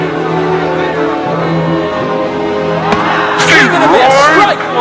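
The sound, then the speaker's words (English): A big baseball stadium crowd murmurs steadily, then a sharp pop rings out as a pitch is called strike one, and the crowd reacts with a swelling wave of shouts, whoops and whistles over the continuing babble. “Strike one! Crowd isn't happy with that one, folks.”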